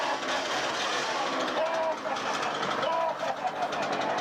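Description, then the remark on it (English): A father runs a chainsaw at his two boys lying under the covers in one bed; the motor roars steadily and loudly throughout, a dense buzzing drone, with brief higher-pitched voices cutting through it now and then. “There are the boys, both under the covers in the same bed, and here's their dad with a chainsaw, and here he goes.”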